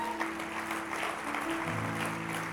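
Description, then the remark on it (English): An audience claps for God in sustained, dense applause, a steady wash of many hands with no speech over it, and a low tonal hum droning underneath. “Put your best hand clap together for God.”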